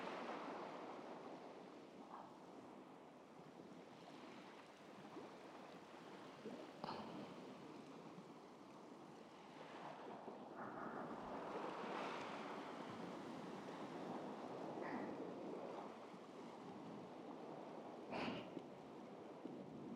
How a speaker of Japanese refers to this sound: さてと、今度はこっちからも海の音聞かせてあげる。